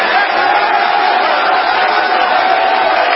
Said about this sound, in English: Clap your hands and shout unto God.